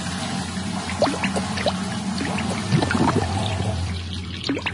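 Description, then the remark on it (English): Water splashes and trickles continuously in a toilet in an animated video, with repeated sloshing bursts over a steady watery rush, moderately loud, and no voices. “Since they're splashing away in there.”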